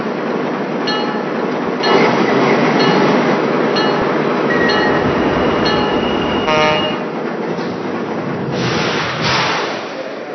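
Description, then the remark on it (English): A train, number 6 arriving from Jamaica, pulls into the Babylon station platform on track 2, its loud rumble steady throughout, with brief metallic squeals and clanks as it slows. “Now arrival from Jamaica on track number 2. Train number 6.”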